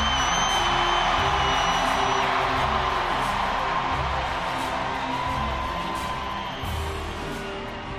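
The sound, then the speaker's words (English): A large crowd roars continuously with cheers, whoops and applause, loud and dense throughout, at a celebration of the 2012 NFL championship in Baltimore, applauding team owner Steve Bisciotti. “A roar of applause for the best owner in the history of the National Football League, Steve Bisciotti.”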